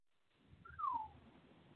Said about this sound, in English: Yeah, I heard that. I can't even whistle, but I heard that.